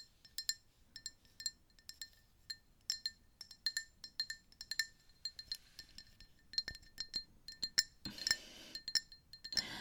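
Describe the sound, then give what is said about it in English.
Light, ringing taps and clinks on a drinking glass, struck repeatedly in an uneven rhythm, clear with bright chimes, growing busier and slightly louder toward the end. “They do things like tap on things or, crinkle stuff. Let me grab a glass real quick.”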